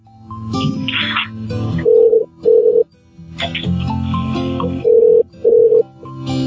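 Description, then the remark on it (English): A telephone rings in the electronics department in a double-burst pattern, two pairs of electronic trills a few seconds apart, heard at moderate volume over busy, noisy indoor background ambience. “Can you hear the phone ringing in electronics?”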